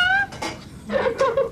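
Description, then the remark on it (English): A cat meows several times in quick succession, fairly loud, with bright harmonic cries that rise and fall and short pauses between them. “Oh, you little kitty.”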